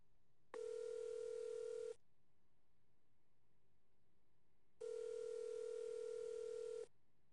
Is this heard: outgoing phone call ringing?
yes